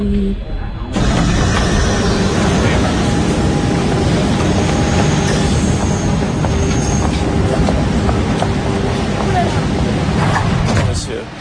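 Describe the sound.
A metro train rumbles loudly and steadily along the rails, with a droning mechanical whine and faint muffled voices underneath for about eleven seconds.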